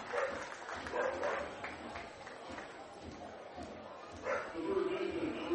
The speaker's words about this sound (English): Apparently, the River Dogs brought their mascot with them. A dog is going berserk somewhere. Can hear it. Bank of the James Stadium, a dog-friendly facility every ball game, not just at Bark at the Park.